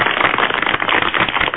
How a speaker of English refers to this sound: Applauded that, too.